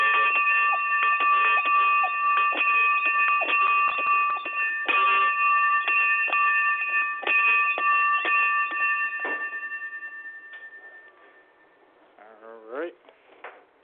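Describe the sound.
A bell rings rapidly and continuously with a steady metallic tone for about ten seconds, rung as a test so equipment can get a reading of its frequency, then fades out, followed by a brief voice at the end.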